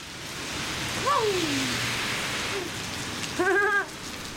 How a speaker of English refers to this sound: We walk out of the Paris, Texas courthouse into the pouring rain.